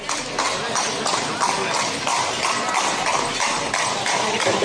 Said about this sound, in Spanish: Es una carreta con caballo, lo dijiste a la primera.